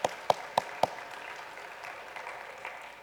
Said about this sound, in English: just express our thanks to Peter for a moment, right? You don't actually have to clap. Usually when I say express your thanks, you clap. But I guess we could clap for Peter. It's a little weird, but let's do it because I like weird things.